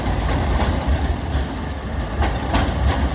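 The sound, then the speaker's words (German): A steady, heavy low rumble of a train idling at a railway platform on a hot, sunny day, with brief hissing bursts near the end and no voices. “Ich stehe am Gleis”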